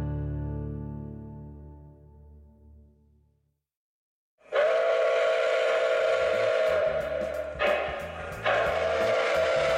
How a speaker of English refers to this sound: Well, the train sound. For several decades, starting before the Second World War, American children and adults have loved electric model trains.